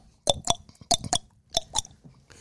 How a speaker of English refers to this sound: I'm surprised y'all haven't heard me chewing on my tongue. You can hear it? Yeah. Because people will be across the room and go, can you please stop that? I don't know how you guys haven't heard it, to be honest.